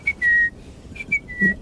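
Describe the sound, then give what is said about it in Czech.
A person whistles an imitation of a great tit's (Kohlmeise) song in Thayatal National Park, Austria: clear, high steady notes in two short phrases, each a brief note or two followed by a longer held tone, with no talking. “Když jste v lese a slyšíte zpěv, který nedokážete k ničemu přiřadit, tak je to většinou právě sýkorka.”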